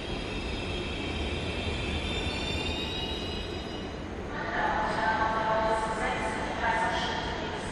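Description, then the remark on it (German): A train rolls past through a main railway station, its steady rumble joined by high metallic wheel squeals and ringing tones that swell midway through. “Und auch in diesem Zug, der jetzt vorbeikommt.”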